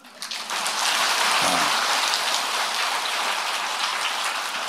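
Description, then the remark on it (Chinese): A crowd claps in a dense, continuous wash of sound that starts abruptly and holds steady for several seconds, hissy and even without distinct individual claps or voices. “掌声不是太热烈，下半部就不讲了。”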